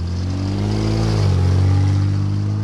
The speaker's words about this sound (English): Cars whiz by in a busy intersection in downtown Saginaw. Each and every one of them is being tracked by four cameras on nearby light poles at the intersection of Court Street and South Michigan Avenue.